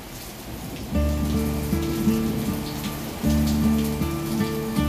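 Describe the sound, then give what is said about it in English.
Steady rainfall hisses throughout, real rain outside with a song's opening rain noises layered over it, while sustained musical chords enter after a second and change a few times. “Yeah, so it's double rain. It's rain on rain.”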